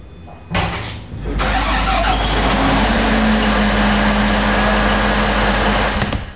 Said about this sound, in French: On était dans la salle des moteurs, ça faisait beaucoup de bruit. Qu'est-ce qui fait qu'on l'entend moins comme ça?